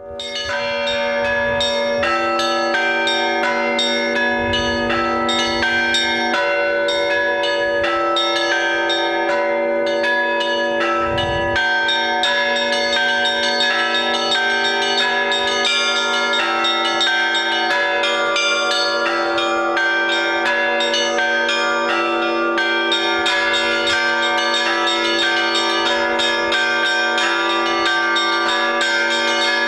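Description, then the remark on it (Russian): A peal of eight church bells rings continuously from the belfry of the Epiphany Church in the Ryazan Kremlin, Russia, on 1 May during a bell festival. Many bells are struck in overlapping, lively patterns with sustained resonant tones, loud and steady throughout with no voices. “1 мая самое сердце Рязани огласил звон 8 колоколов, установленных на звоннице Богоявленского храма.”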